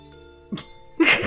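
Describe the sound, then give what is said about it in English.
A single loud sneeze: a short intake-like burst, then a sharp explosive blast of breath over a faint steady background hum, with no talking. “Gesundheit.”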